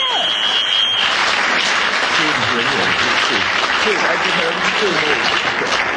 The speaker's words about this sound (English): Well, that whistle was the final whistle, and what an interesting result we have.